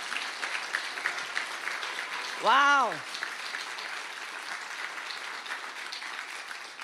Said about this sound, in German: Wollen wir mal dem Lobpreisteam und unserem Jesus einen richtig starken Applaus geben. Hammer.